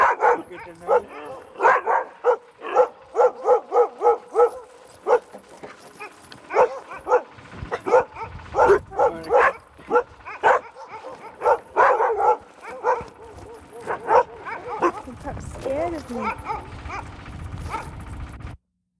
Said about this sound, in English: now we've come up to the dogs he's raised.